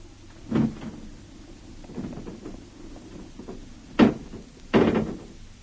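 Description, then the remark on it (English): A car bonnet being opened on a warm night to look under it when the car will not start: a series of metallic clunks and rattles, quieter at first, then two sharper, louder knocks near the end, with no voices. “Take a look under the bonnet.”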